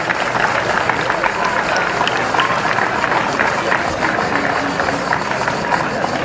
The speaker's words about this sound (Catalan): per a tots ells ens demano un aplaudiment per a que siguin participant com ho fan a les nostres festes.